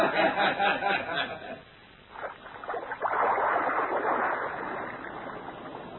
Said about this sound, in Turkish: Gün görmüş tekne Sarayburnu önlerinde kayarken martılar güle güle der gibi kaynaşıp duruyorlardı.